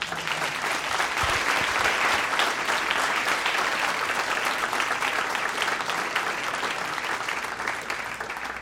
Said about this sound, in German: Dein Applaus.